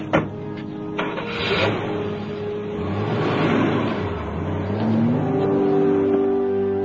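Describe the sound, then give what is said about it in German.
A car engine hums and then revs up, its pitch climbing as Carlos drives off in his car after Ramona, steady with no voices, after a few brief knocks at the start. “Carlos setzte sich in seinen Wagen und fuhr hinter Ramona her.”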